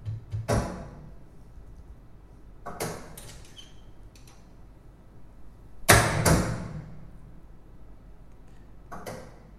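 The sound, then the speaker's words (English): A door thuds and clatters several times at irregular intervals, with sharp knocks and rattling latch sounds, the loudest pair of bangs near the middle. “Doors are always very important because they punctuate crime scenes.”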